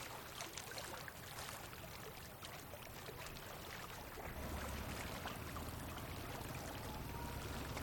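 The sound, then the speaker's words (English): Ice pours steadily into the cold storage hold of a fishing launch being readied for a journey, a dense continuous clatter and rattle of cubes, with a low engine-like rumble rising underneath partway through. “Loading fresh water and supplies and pouring ice in the cold storage, refueling the loading gargars are the most important tasks.”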